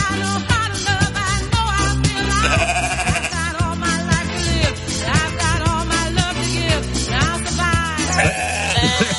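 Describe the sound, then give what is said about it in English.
Sheep bleat loudly and repeatedly, their wavering, quavering cries overlapping one another against a dense, continuous backdrop of sound, with no talking. “Wool from Gay Sheep, I'll beat it, has made its debut appearance at a New York fashion show as part of a collection campaigning to save the animals from slaughter.”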